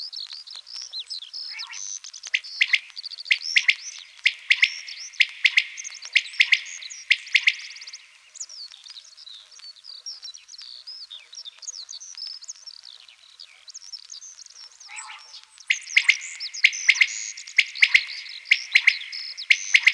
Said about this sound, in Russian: Совсем рядом в поле кричит перепел. Спать пора, спать пора.